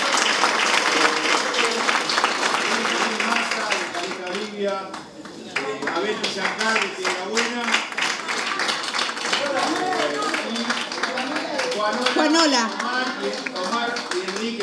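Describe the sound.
An audience claps steadily throughout, a dense patter of many hands, loud and continuous, while a man's voice speaks over the applause.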